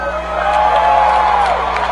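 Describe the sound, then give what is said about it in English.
A loud crowd roars and cheers continuously in response to a call to scream, with high-pitched screams and whoops rising out of a dense wash of voices. “let me hear you scream right here.”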